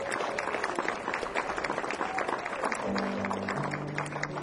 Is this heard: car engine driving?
no